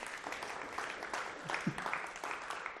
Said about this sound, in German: Und deswegen gebt euch doch mal gegenseitig einen großen Applaus an der Stelle. Hey!